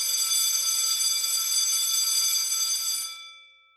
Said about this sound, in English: Yeah, we can insert a school bell. Yeah, a school bell. That's going to happen right about now.